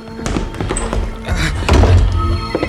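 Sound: door being opened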